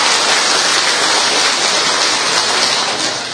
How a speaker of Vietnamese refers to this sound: Chúng ta một tràng pháo tay thật lớn để chúng ta tạ ơn Chúa. To lên.